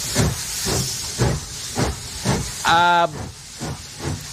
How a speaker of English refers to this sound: Why did you put a steam train in Studio B? Well, the steam train, your manager or something.